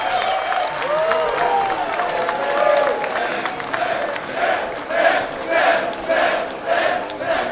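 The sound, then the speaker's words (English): A comedy show audience gives comedian Sam Talent a standing ovation, applauding steadily and loudly, dense clapping mixed with cheers and high whoops; toward the end the noise swells and dips in a loose rhythm as the cheering continues. “Keep clapping as you're walking out.”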